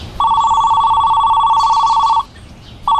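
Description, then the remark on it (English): A steady electronic ringback tone heard through a phone on speaker during a call to the police: one long, loud two-second ring, a pause, then the start of the next ring, with no one talking. “In fact, let me call them right now. I'll put the phone on speaker in case they need to ask you something.”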